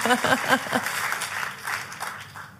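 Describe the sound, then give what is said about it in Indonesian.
Scattered clapping from an audience invited to applaud during a sermon, a dense, steady patter that carries on beneath a man's voice speaking over it, then gradually thins out and fades. “Oh, kalau mau tepuk tangan, yang paling ujung luar biasa tepuk tangannya saudara.”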